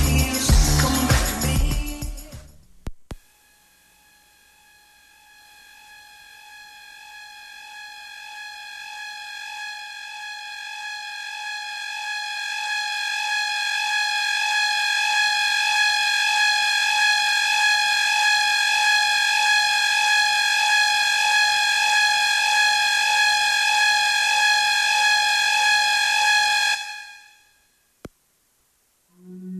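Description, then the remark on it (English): A brief burst of loud noise gives way to a single long siren tone, steady in pitch and rich in overtones, swelling for over twenty seconds before cutting off abruptly. It is music from the soundtrack of the film Contagion, not a real siren. No one speaks. “Hopefully for those of you who are in a car right there, didn't think that was an actual siren.”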